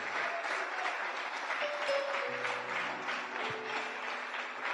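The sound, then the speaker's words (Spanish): A church audience claps steadily and loudly during a sermon for the whole stretch, a dense wash of applause with faint sustained musical tones humming underneath. “Suelte la Biblia ahora mismo y dele un aplauso al que merece aplauso.”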